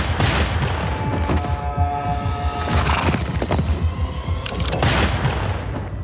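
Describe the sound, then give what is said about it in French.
A loud, dense barrage of gunfire in a western film set in 1860 crackles without pause for several seconds, shots overlapping in rapid volleys with sharp peaks, and no voices heard. “Des chevaux, des coups de feu, 1860, des grandes étendues, c'est un western.”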